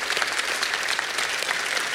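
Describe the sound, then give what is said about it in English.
An audience at a book-tour event claps steadily for the people supporting the tour, a dense patter of many hands sustained at an even, fairly loud level throughout, with no voices standing out. “So you give them a round of applause.”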